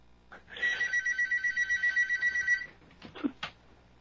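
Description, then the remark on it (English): A telephone for listener calls rings with a rapid, trilling electronic bell for about two seconds, loud, followed by a few scattered clicks and thumps. “And see, there goes the phone right there.”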